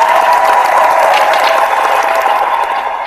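round of applause

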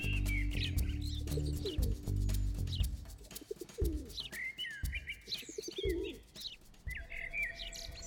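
pigeons cooing

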